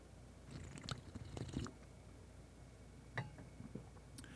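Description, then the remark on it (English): Quiet mouth sounds of someone sipping hot green tea with lime, ginger and raw honey: a few soft slurps and wet clicks in two brief clusters, with a low hush between them. “And while you're getting there, I'm going to get my sip.”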